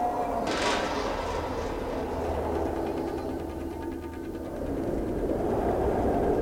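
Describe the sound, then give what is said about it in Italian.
A train rolls steadily along railway tracks through rural India near Indore in 1970, a continuous low rumble and hum with faint rattling on top, holding fairly loud and even throughout with no voices. “L'India continuava a essere un sogno per i discepoli di Srila Prabhupada, che osservavano dal finestrino mentre il treno li trasportava attraverso il mondo rurale indiano, che era loro ignoto.”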